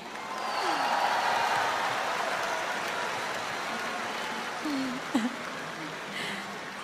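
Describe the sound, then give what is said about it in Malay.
A concert audience claps steadily for a band, the musicians playing at the concert, in a dense, even wash of applause that holds for several seconds, with a few faint voices and whoops rising through it. “Apa kata kalau kita berikan tepukan untuk kumpulan …?”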